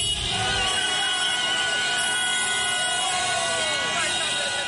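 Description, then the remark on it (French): A loud, dense street crowd in Harare, Zimbabwe cheers and shouts while several car horns honk over and over, their sustained blaring tones overlapping in a continuous celebratory din, greeting President Robert Mugabe's decision to resign in November 2017. “Les cris de joie et concerts de klaxons qui ont accueilli hier dans les rues de Harare la décision du président Robert Mugabe de finalement accepter de démissionner après 37 ans dans ce pays d'Afrique australe.”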